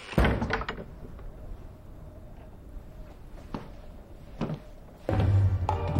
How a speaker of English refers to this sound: Beatrix hurries towards the shed, noticing the RD on the cold frame. He hurries to take up a position behind the door, which she now swings open.